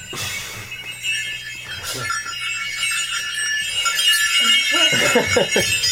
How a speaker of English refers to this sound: The bells are off. That wasn't actually part of the song, that last part.